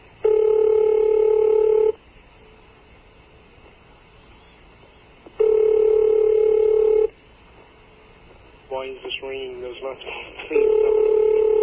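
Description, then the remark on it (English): A telephone ringback tone from a call placed to a 706 area code repeats in long, steady, mid-pitched bursts of about two seconds, separated by quiet gaps, with a short stretch of wavering voice-like tones just before the last ring. “I don't understand why this is ringing here.”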